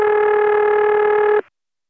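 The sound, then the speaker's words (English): A single loud, steady telephone ring tone, an independent "St. Thomas ring" heard when calling a vacant number at an independent location and reaching intercept, with a buzzy, harmonic-rich, distorted pitch, holds for about a second and a half, then cuts off abruptly into silence. No one speaks. “Well, that's one of those independent rings, which I later came to know as St. Thomas ring.”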